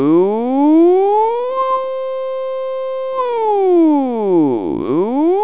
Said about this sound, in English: Good morning. It is 4:30. Here is your early morning alarm call. A huge blast made of warbles, barks, whistles, and sirens shakes the ship.